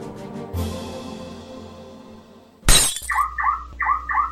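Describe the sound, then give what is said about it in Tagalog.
A car window is smashed as the car is being robbed: a dull thud, then a loud, bright shatter of glass with tinkling debris, followed by four rising electronic chirps of a car alarm. No one speaks. “ninanakawan yung kotse ng brad mo, oh.”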